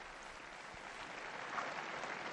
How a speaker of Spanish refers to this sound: Un aplauso a las nuevas beatas, ha pedido el Santo Padre Francisco.